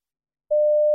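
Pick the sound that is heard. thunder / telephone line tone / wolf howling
telephone line tone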